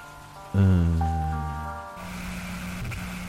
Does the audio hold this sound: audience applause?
no